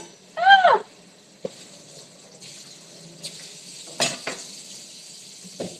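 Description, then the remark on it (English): Breakfast being cooked: a bright metallic clang rings out from a pan, followed by a few sparse clicks and clatters of utensils over a steady, faint sizzling hiss. No one speaks. “Just listen to me fucking cook, like, my breakfast.”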